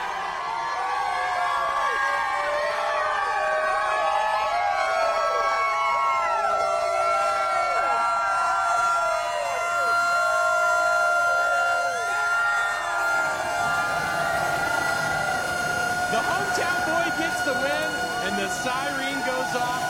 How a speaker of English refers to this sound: Is it okay if Rutledge rings the siren tonight?